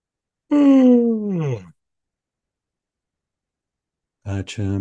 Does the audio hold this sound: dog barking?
no